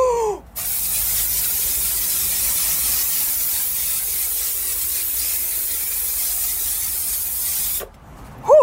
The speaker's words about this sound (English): I love the spray because I can spray and get coverage on the whole hut, the whole enclosure, and it gets into